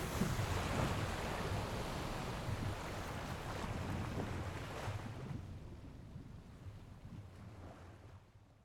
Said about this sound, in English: Finally, the globe shatters and the raft begins moving over the River Phlegethon.